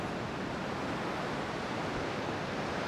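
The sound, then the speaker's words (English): Steady, full-bodied rushing noise of waves breaking across a beach with wind blowing from the east-northeast, a continuous even roar with no distinct breaks and no voices; only a few people are on the beach. “And there's just a few people on the beach, so it's post-Easter paradise.”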